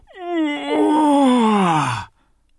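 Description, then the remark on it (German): A person in bed yawns once on waking, with a long voiced breath that rises briefly and then slides down in pitch for about two seconds before stopping, with nothing else around it. “das bin ja ich selbst. Ich gähne.”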